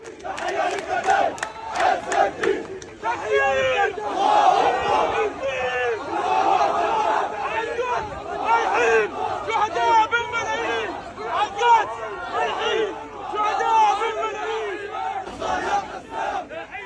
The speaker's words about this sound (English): Journalist Saeed Hezbollah filmed massive crowds of mourners taking part in the funeral procession for Al-Haddad and his family after they were killed.